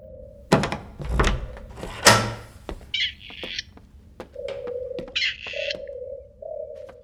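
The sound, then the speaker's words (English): Doves coo in short, hollow, repeated calls, steady, broken by a few heavy thumps or flaps early on and some brief higher chirps. No one speaks. “Now there are doves?”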